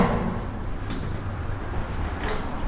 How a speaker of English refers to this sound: I've been locked out again. Oh no. Broken door handle.